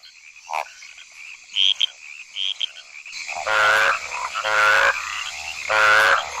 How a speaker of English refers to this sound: The cacophony of competing calls seems deafening to us, but frogs' ears are tuned to hear only the calls of their own kind.